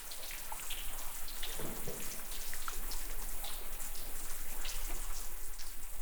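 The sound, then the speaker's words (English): A dense, steady fizzing crackle of countless tiny pops and clicks, like bubbles bursting from melting ice, continuous and fairly even in level with no voices. “Or lots of drips, but in fact, it was the fizz or the popping of lots of bubbles that had been stored in the ice for hundreds or possibly thousands of years as the ice melted and these bubbles were released.”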